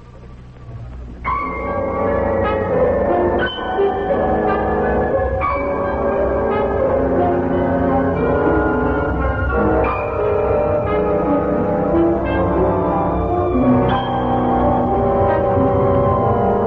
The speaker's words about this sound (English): Six bells, 11 p.m.